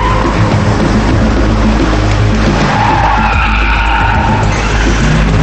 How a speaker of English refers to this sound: She speeds through the garage. She quickly parks her car.